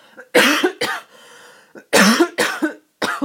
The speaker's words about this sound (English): I have to cough again. I'm so sorry.